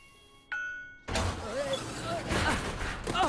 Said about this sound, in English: A small hammer bonks down on top of the pod, which splits into two halves again.